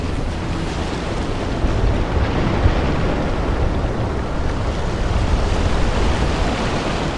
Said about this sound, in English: Well, good morning, everyone. It's the morning after rally Estonia, and well, it's an early morning boat trip we're taking from Tallinn across to Helsinki.